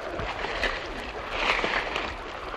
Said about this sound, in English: What's that sound? Water. From up ahead there. It sounds like another river. But down here? Yes, of course. Possibly underground connection to the river down below.